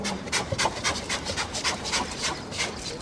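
The polar bear mother Tonja calling her cub with a contact call in Berlin: a rapid, steady series of breathy, huffing chuffs, about three per second, rough and airy in tone, with no voices alongside.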